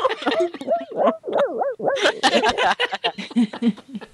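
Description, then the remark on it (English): A dog vocalizes with a run of rising and falling whines and yowls, loud and continuous for several seconds, with human voices and a bit of laughter mixed in. “But back to this before I was rudely interrupted by my dog.”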